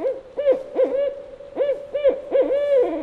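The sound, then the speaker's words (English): A barred owl hoots in a rhythmic series of clear, resonant notes, grouped in a rolling 'who cooks for you' cadence, fairly loud with no talking. “It's often described as, who cooks for you? Who cooks for you, right?”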